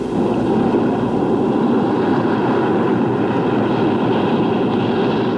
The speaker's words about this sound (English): At the seaside, waves break over the jumble of jagged rocks beneath the cliff where Skip died.